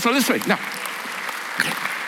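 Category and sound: crowd, audience clapping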